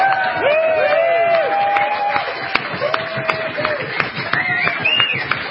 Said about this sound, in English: This is another record-setting year, the best Pork Fest yet, as is being said, and we're hearing a smattering of applause. Give it up for Pork Fest!